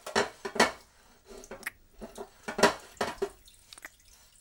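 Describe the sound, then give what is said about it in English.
Dishes being washed: scattered clinks and clatters of pots and cutlery in an irregular rhythm, with splashes and drips of running water between them. Nobody speaks. “Then let's see how I can challenge you after we wash the dishes.”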